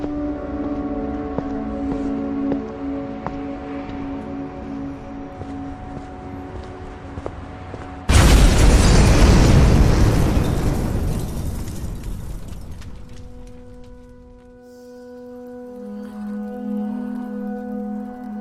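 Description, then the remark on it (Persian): Over a steady, low droning tone, a car bomb explosion suddenly erupts, loud, its roar rumbling and slowly fading over several seconds before the tonal drone returns alone; the blast that killed Imad Mughniyeh. “وقتی که انفجار انجام شد، فرمانده ایرانی اولین کسی بود که خود را به عماد مقنیه رساند.”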